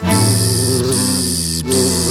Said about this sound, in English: And then by a tree he heard a bee.